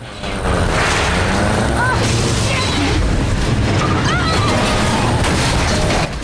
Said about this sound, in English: In the car, Ben stares gravely ahead as Caroline reverses, then accelerates at the gates again.